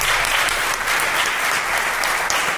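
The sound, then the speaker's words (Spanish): A crowd applauds two people steadily, a dense wash of clapping hands that stays loud and even for a couple of seconds, with no voices over it. “Un aplauso para estos 2 mequetrefes, por favor.”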